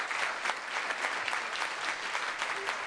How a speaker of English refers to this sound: They're Vietnam veterans, and several of them are with us today. Is that right? Where are they? Round of applause. Big round.